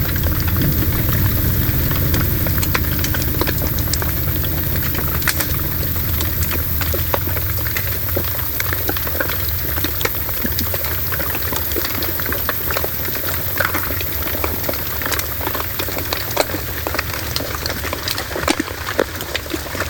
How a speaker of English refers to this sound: used sensitive hydrophones, lowering them hundreds of feet into the sea to capture a briny glamour with chilling clarity. But it sounds pretty mental.